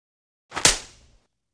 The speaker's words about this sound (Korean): 난 그날 잠자는 미녀를 얘기하고 교무실에 끌려가 따귀를 맞았다.